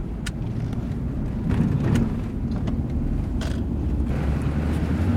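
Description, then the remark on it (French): Steady low engine and road rumble from inside a moving police patrol car reinforced with plexiglass, constant and fairly loud, with a few faint clicks and rattles on top and no voices. “Non, c'est pas une voiture blindée. C'est une voiture juste renforcée de plexiglas.”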